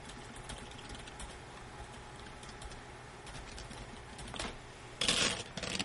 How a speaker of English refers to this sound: Checking my typing here to make sure I didn't do something ridiculous. Nope, looks fine.